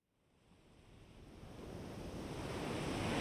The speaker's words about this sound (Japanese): 海とかどうですか。この季節なら人もあまりいないと思いますし、潮風と波の音できっと癒されますよ。